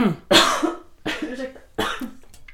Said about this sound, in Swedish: Det är så jävla svårt att anpassa dig till de där hostningarna.